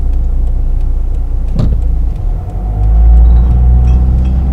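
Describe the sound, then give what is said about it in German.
An Opel Zafira family car, second or first generation, about 110 PS, drives along with a steady, loud low-frequency engine and road rumble, swelling as it accelerates near the end, with a brief clunk partway through. No one speaks. “Ja, ich fahre einen Opel Zafira zweiter Generation, glaube ich, ist das, oder erste.”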